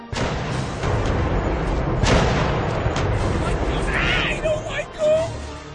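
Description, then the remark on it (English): Cannons of a great ghost ship just off the shore boom repeatedly, with several loud blasts over a continuous deep rumble, joined near the end by eerie whistling tones and indistinct voices in a dense, noisy scene. “The great ghost ship fires ghost cannons!”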